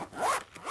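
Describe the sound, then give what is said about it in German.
The zipper of a pencil case from a school bag is drawn shut in one quick rasping pull, with a bright scratchy texture that swells and then tails off. “Wenn man es zuklappt, dann hört sich so an. Eigentlich wie beim Aufmachen.”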